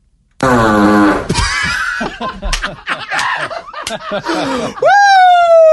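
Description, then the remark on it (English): A loud, raspy buzzsaw-like fart blasts for about a second, followed by snickering and laughter, then a rising tonal squeal near the end. “It's like you have two distinct style of farts. You have the buzzsaw, like we just heard, and then like the popcorn popper style of fart.”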